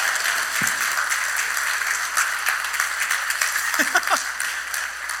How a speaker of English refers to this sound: Everybody give these kids a round of applause.